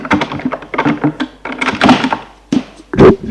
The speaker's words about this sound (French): Il le fait entrer et ferme la porte.